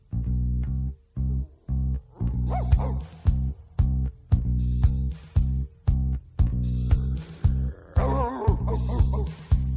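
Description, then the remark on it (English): A dog barks loudly, a rapid, steady run of deep barks with barely a pause between them, continuing for about ten seconds with no one talking. “what are you barking at? What do you see?”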